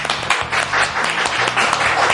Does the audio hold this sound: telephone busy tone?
no